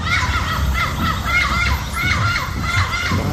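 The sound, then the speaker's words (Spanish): A dense chorus of many birds singing at once in Parque Humedal La Samaria, a 27-hectare wetland nature reserve in Puerto Berrío, shrill overlapping chirps and whistled calls rising and falling continuously at a steady, fairly loud level, with a low rumble underneath. “Los cantos de las aves resuenan mientras nos reunimos con Jason Naranjo, el concejal de Puerto Berrío y ambientalista de la Fundación Huella Verde, camina con orgullo en el Parque Humedal La Samaria, una nueva reserva natural de 27 hectáreas,”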